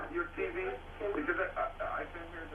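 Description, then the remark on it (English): Television sound from a caller's TV plays in the background during a phone call, a muffled, tinny stream of voices like a broadcast coming through a speaker, continuous and moderately loud with no clear words standing out. “Can you please turn down your TV? Because I can hear the echo of my voice.”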